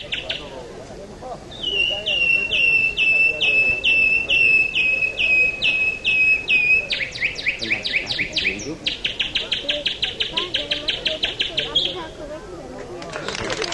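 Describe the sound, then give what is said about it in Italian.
A man on a stage at a bird-imitation contest (chioccolo) whistles an imitation of nightingale song: a steady high trill that breaks into quick, rhythmic chirping phrases, loud, with an audience below and a faint murmur of background noise. “delle gare in cui diversi signori si presentano su un palco e con amplificazione oppure senza amplificazione fanno sfoggio della loro abilità di imitare il canto degli uccelli, come in questo caso, sentite.”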